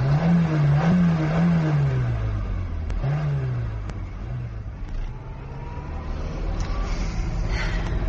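A car engine revs and drones under load while driving across a moor on a bad road, its low pitch rising and falling through several gear-like surges, with steady road rumble and rattling throughout and no voices.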